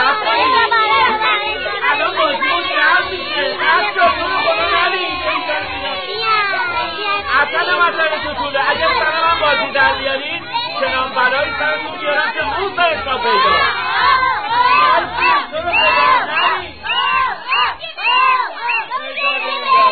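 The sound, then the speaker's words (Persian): A dense crowd of children chattering and shouting all at once, a loud continuous jumble of overlapping young voices with occasional higher yells rising above the din. “آهای بچه مرچه بس دیگه، نمیخواد صرف بزنی.”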